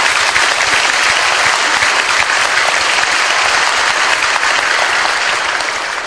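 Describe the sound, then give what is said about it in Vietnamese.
A large audience claps loudly and steadily, a dense, sustained wash of applause filling the whole stretch without pause or voices: a big round of applause from the audience at Thiên Quang dharma hall's year-end ceremony, given in tribute to the venerables. “Xin tất cả chúng ta hội chúng cho một tràng pháo tay thật lớn để tri ân.”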